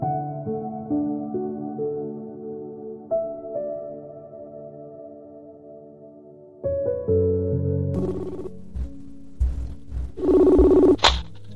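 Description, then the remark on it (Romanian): Tonal electronic notes hold steady over a soft musical bed, then a louder burst of layered ringing tones and clattering noise arrives near the end, like a phone ringing in for the first live listener call of an evening call-in program. “Dragi romantici, rămâneți alături de mine, avem primul telefon în direct.”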